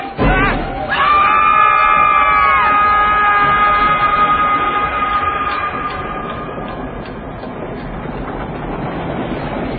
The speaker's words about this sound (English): wish we were on that train.